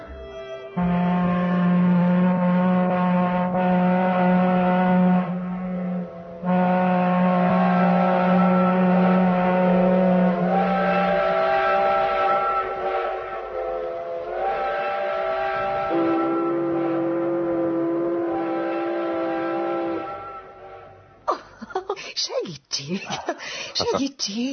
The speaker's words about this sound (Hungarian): Hamarosan megszólalnak a hajókürtök vendéglátójuk nagy hajóin. A kürtszó házigazdánk búcsú beszédét jelképezi.